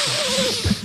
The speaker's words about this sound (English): You're like, come on, man. Like the sniffles sound like they were, you know, in Scarface in the 80s.